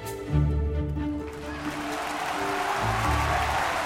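Sustained low orchestral chords ring out as a crowd's applause swells in underneath, turning into steady, dense clapping that continues to the end.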